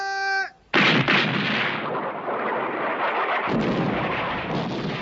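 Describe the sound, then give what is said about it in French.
A brief high whistle-like tone cuts off, then on the command to fire a loud volley of gunfire erupts from soldiers with fixed bayonets attacking Turkish positions, merging into a sustained roar of overlapping shots and rumbling blasts with several sharp renewed bursts. “Dixième vague, baïonnette au canon ! Baissez la tête ! Feu !”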